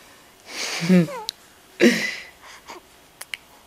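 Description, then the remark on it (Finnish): A newborn baby yawns: a breathy gasp that slides into a soft, squeaky whimper, then a shorter second breath, followed by a few tiny mouth clicks. “Ja haukotus taas, joo.”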